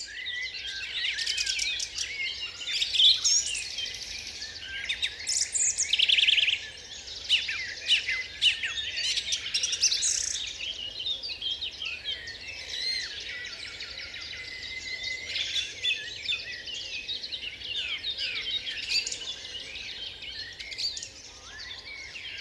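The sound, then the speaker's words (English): A dense dawn chorus of many birds singing at once in the UK, overlapping chirps, trills and whistles rising and falling continuously, with a faint low rumble beneath and no voices. “For me, it's definitely the UK and the Dawn Chorus in the UK.”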